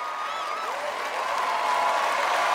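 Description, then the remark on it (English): A large audience stands and applauds the Korean Divas and the McKinley High Marching Band, a dense, steady wash of clapping that holds even and loud throughout, with faint whistles or cheers rising above it. “The audience stands and applauds.”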